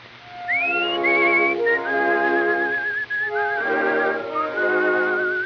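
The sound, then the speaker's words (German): A person whistles a bright, warbling tune in imitation of little birds singing, with rising slides and trills over a steady backing of sustained tones, continuous and fairly loud for several seconds. “Die Hochzeit findet nun statt und die Vöglein pfeifen dazu.”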